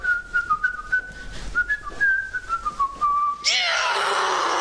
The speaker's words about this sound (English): In the study, … paces as he whistles.